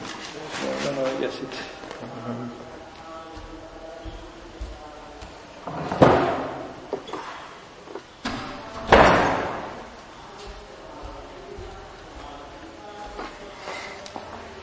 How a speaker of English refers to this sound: The door is open now.